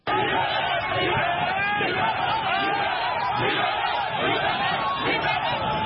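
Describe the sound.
A crowd of young activists of Cameroon's ruling party, the RDPC, in Yaoundé shouts and chants that they no longer want old politicians representing them, a steady loud roar of overlapping cries with rising and falling sung phrases running through it for several seconds.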